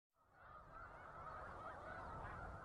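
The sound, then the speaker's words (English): A large flock of migrating snow geese near Savannah, New York, in the Finger Lakes, honks continuously, the many overlapping calls blending into a dense, steady chorus that swells slightly toward the end. No one speaks. “We leave you this morning near Savannah, New York, in the Finger Lakes, a favorite spot for migrating snow geese.”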